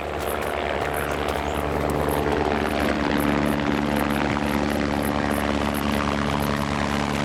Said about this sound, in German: Zeit für eine Warenlieferung per Hubschrauber.